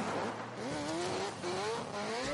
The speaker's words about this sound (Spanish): En el amor se escuchan campanas de boda. Y también se escucha un derrape de una fuga a las pocas semanas.